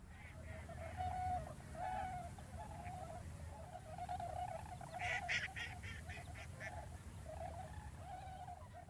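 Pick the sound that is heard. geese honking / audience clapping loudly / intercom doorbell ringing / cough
geese honking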